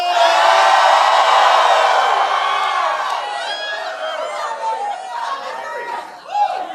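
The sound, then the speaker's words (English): A crowd screams and shouts together in a loud, sustained burst that gradually thins into scattered yells, whoops and excited chatter over several seconds. “Somebody just scream.”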